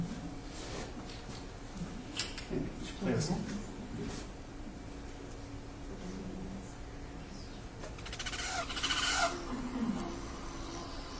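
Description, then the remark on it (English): Hummingbird wings hum as a low, wavering buzz that swells and fades in bursts, joined near the end by a few sharp, high chirping hummingbird call notes. “So the humming noise is the wings.”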